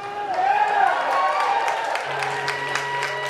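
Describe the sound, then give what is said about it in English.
Sparse, scattered clapping from a small concert audience, steady over a few seconds, with a murmur of crowd voices and some vocal tones mixed in underneath. “I'd like to thank you for your scattered applause.”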